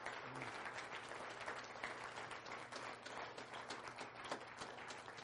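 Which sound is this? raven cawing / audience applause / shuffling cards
audience applause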